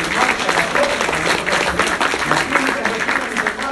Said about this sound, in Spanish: Era un retiro de la renovación carismática católica. Dar un aplauso a nuestra bendita renovación.